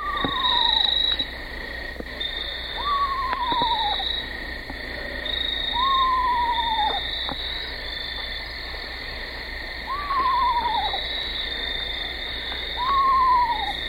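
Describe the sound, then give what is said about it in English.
An adult Eastern screech owl repeats its quavering, up-and-down tremolo whinny about five times at steady intervals, clear, over a constant high-pitched chorus of frogs and insects. “And our third example is a fun one because it's more of an up and down tremolo whinny, almost resembling a toy pony, as heard here.”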